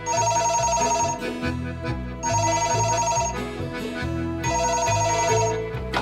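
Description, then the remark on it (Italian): A telephone rings with a bright electronic melody, repeating the same short musical phrase about three times in a steady rhythm, loud, with no voices. “In simili riflessioni ero perso, quando fui interrotto bruscamente dalla suoneria del telefono.”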